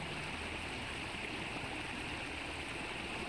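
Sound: rushing river water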